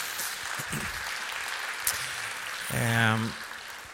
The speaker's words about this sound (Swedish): Stort tack till alla er som bakade tårtan. Ni får en liten applåd här också.